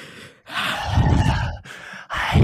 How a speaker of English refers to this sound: Just heavy breathing.